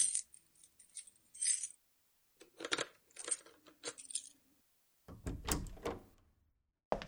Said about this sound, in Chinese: 我先把门打开